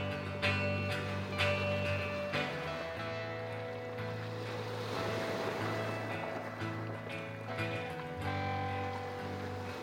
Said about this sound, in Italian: La notte non si fece attendere. Tra i lamenti e l'angoscia delle donne, dei bambini, le preghiere degli uomini, l'oscurità e l'infrangersi delle onde.